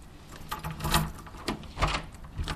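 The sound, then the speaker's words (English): The door to a townhome on the San Francisco Peninsula being locked in the morning: a few sharp metallic clicks and clunks spaced irregularly over a couple of seconds, with no voices. “begins her commute by locking the door to her townhome on the San Francisco Peninsula and walking to a nearby train station.”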